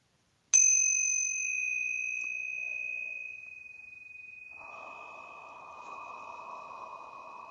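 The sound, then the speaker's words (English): Small hand bells, called tincture bells, struck once before a trance channeling session, leaving a bright, pure ringing tone that hangs and slowly fades for several seconds while a soft hiss rises underneath. “All right, so we are going to go ahead and get started here this morning, and I'm going to ring the tincture bells to clear out any lower vibrations and create a pure sacred space for trance channeling.”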